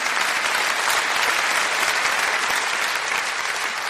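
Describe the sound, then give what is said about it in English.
An audience claps together in a steady, dense burst of applause that holds at an even loudness for a few seconds, with no one speaking over it. “You can applaud that, yeah.”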